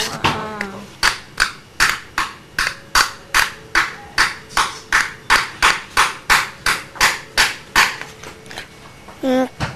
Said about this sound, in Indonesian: Ini apa sih, Kak? Palu.